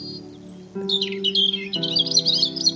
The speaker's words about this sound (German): über dir nimmst du plötzlich ein aufgeregtes Gezwitscher wahr.